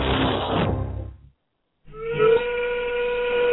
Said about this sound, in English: All too often these days, the factory whistle is falling silent in America.